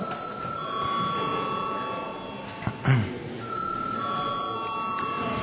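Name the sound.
parliament voting bell ringing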